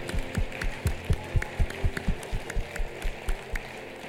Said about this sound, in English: Come on, let's give the Lord a hand clap of praise for this morning.